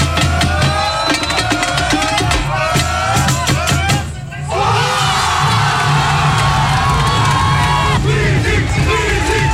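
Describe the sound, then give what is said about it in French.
About a hundred United supporters erupt in loud, sustained cheering and shouting after their team's first goal in Squeezie's Kings League 7-a-side indoor football competition, a dense roar that briefly dips midway before surging again just as strongly. “Explosion de joie chez la centaine de supporters de United après le premier but en Kings League de Squeezie, le président de son équipe.”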